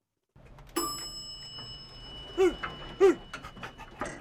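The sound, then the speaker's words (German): A dog named Hieronymus, a counting dog met in an elevator, pants in a few loud, breathy bursts with short gaps between them, while a steady high ringing tone hangs in the background. No one speaks. “Ach, das ist aber ein nettes Hundchen hier.”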